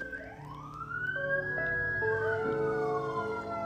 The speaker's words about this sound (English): Now, why the sirens start? Chill.